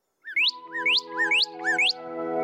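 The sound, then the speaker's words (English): Four quick, rising bird chirps in a steady rhythm, each a bright upward-sweeping whistle, over a sustained low humming tone that continues throughout. “Oh, that's a pretty little bird.”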